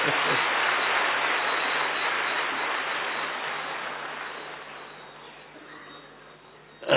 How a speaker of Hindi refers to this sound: Thank you, बहुत अच्छा, आप सबको बहुत बहुत बधाई हो, बजाओ ताली अपने लिए।